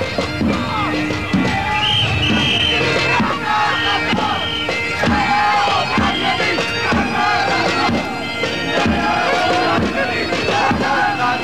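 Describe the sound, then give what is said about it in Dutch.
A loud crowd of squatters' rights demonstrators, dressed in black, chants "krakers gaat door" in a steady, repeating rhythm, many voices shouting together over a dense, continuous roar of noise. “Ze schreeuwen, krakers gaat door, krakers gaat door. Een hoop protest.”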